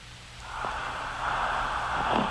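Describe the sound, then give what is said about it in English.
A raspy, hissing snore drawn out for about two seconds, rough and breathy with a low rumble underneath, growing slightly louder toward the end with no voices. “Ooh, that was snore.”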